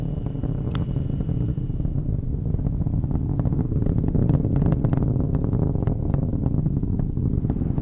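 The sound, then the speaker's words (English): A continuous, heavy engine roar rumbles steadily throughout, dense and low with crackling texture, from a rocket launch as its solid rocket boosters throttle down, with no voices over it. “Looking for our SRB throttle down momentarily. Engine continues to operate well.”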